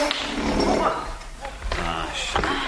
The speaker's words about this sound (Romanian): Uite, mutăm masa în mijlocul odăi.